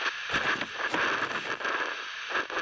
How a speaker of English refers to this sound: Dead. 101 FM The Raptor is... dead. The channel nothing but a blank wall of static. I stand in the sweltering heat of the anonymous motel room, scanning back and forth, but every frequency is dead.